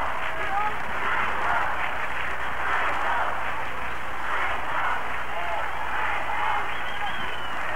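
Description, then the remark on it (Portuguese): A huge stadium crowd at a concert in Morumbi stadium roars and chants in a dense, continuous wall of voices while the stage is dark between songs, holding a steady, loud level throughout with no single speaker standing out. “Essa é a reação da plateia.”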